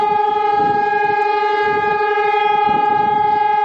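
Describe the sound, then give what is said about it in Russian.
City air-raid sirens in Warsaw sound at exactly 17:00 local time on a Wednesday in memory of the uprising, a loud, sustained blaring tone that holds a steady pitch throughout, with a low murmur of outdoor background noise underneath and no speech. “Ровно в 17:00 по местному времени в городе завыли сирены.”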